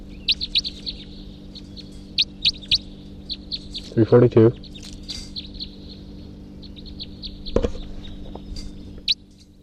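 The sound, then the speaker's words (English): A male bird, bird 342, calls from his tree in a rapid series of high, thin chirps, repeating in bursts through the whole stretch, with a brief lower, rougher call and a sharp knock partway through. “It could just be that that male is calling now from his tree.”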